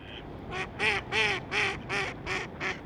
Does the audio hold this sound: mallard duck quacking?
yes